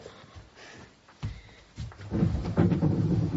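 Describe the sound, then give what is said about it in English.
A low rumble of thunder swells after a quiet start, rolling and growing louder over a few seconds as a storm grumbles. “Hey, Storm.”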